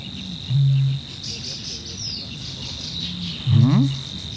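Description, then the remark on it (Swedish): Two low, grunting calls of a water rail in wetland, one near the start and a rising, squealing one near the end, over a steady high insect drone. “Nu kurrar det inte i min mage, det var en vattenrall.”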